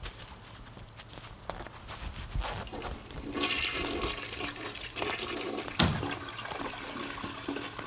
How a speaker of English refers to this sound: You're not supposed to flush the toilet.